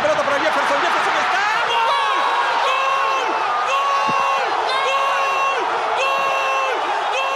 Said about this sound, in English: In Peru, the celebration of people jumping and screaming after Farfán's goal was so intense, it activated an earthquake alarm detector in Chile.